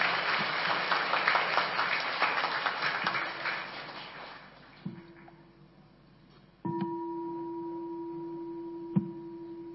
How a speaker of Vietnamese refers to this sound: Chúng ta hãy dâng cao một tràng pháo tay nữa để dành tặng cho sư.